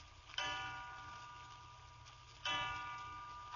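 clock striking three

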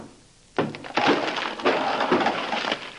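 knocking on wood

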